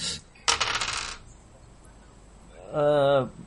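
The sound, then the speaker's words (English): A few dice are rolled onto a hard tabletop during a tabletop game, a quick burst of rattling clicks lasting about half a second, followed after a pause by a short voiced sound. “You're not rolling many dice, aren't you?”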